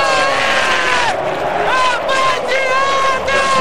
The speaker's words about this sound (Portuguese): A galera grita o nome dele em todo o Brasil, do Nilton Santos, do Nilton pro Brasil inteiro.